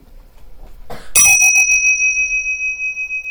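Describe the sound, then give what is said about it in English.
A single bright bell is struck once and then rings out with a long, sustained metallic tone that slowly fades, fairly loud, with no talking over it; it is rung for a focus exercise in which listeners track the sound until they can no longer hear it. “So let's do, let's track the sound for three bells just to create focus.”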